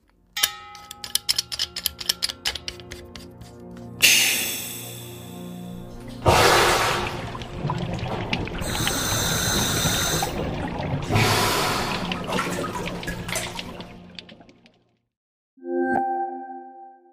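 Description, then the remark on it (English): Underwater diving sounds recorded in the sea and in a cave, and scuba gear recorded in a studio, from the Underwater Textures, Diving and Diving Equipment library by Ivo Vičić Sound Libraries: a run of sharp clicks and ticks, loud rushing bursts of bubbling, hissy air, then a short ringing metallic ping after a pause. “Sounds of diving recorded in the sea, in a cave, and many other underwater textures, as well as scuba diving gear recorded in the studio.”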